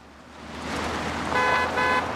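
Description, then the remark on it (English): A car drives along a dusty road through a forest, a second car following close behind, with steady road and engine noise that swells, then a horn sounds in two short honks near the end. “Brown drives his car along a dusty road through the forest, Paul following close behind in his car.”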